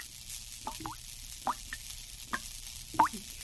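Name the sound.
water dripping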